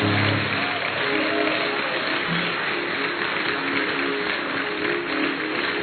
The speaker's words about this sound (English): You know, you're clapping. It's not for me, unto the Lord. Unto the Lord.